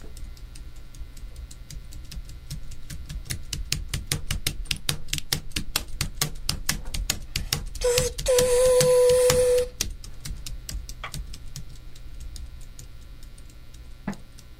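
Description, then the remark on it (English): Rapid, steady clacking on a computer keyboard, used as a sound effect to imitate a train, builds a chugging rhythm like train wheels on a track, broken midway by a brief high whistle-like tone, then the clicking thins out and slows near the end. “Let's see what a keyboard sounds like imitating a train.”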